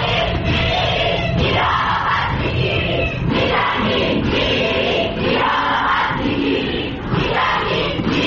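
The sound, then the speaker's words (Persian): A large crowd of university students in Iran (Tehran, Beheshti, Khajeh Nasir, Soore, Sharif and Chamran Ahvaz universities) chants in unison at a memorial protest for victims of the Ukrainian airliner downed by an IRGC missile, loud rhythmic shouted phrases repeating roughly every second, with brief dips and a dense roar of voices. “بنابر گزارش ها دانشجویان دانشگاه های تهران، بهشتی، خواجه نصیر، سوره، شریف و دانشگاه چمران احواز برای یادبود قربانیان شلیک موشک سپاه پاسداران به هواپیمای اوکراینی تظاهرات کردند.”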